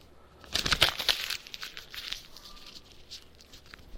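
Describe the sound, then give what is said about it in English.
A paper airplane being crumpled into a ball: a burst of sharp crackling crinkles that settles into softer, scattered rustling. No one speaks. “I just crumpled it into a ball because I want it to be a ball.”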